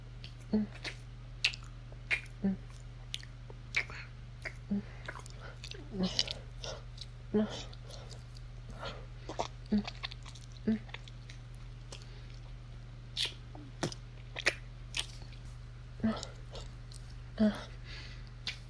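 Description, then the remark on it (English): Wet mouth sounds of a person licking and slurping fluid from a partner during oral sex, with repeated slurps and licks in an irregular rhythm, soft smacking clicks over a steady low hum. No one speaks. “Do you like hearing me slurp my own cum out of you?”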